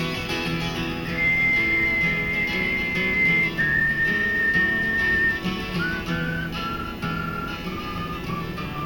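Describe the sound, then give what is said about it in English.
A melody whistled by a group of people, in long, held notes stepping gradually up and down, carried clearly over a full, steady instrumental backing. “Everybody whistle.”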